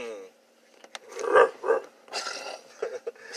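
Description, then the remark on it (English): A person imitates a dog barking, giving two strong, throaty barks in quick succession, followed by some breathy, growly vocal noise. “That was a pretty strong dog. Good bark voice.”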